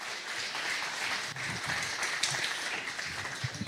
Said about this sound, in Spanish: ¿Cuántas palmas al Señor por ese poder que te da Dios?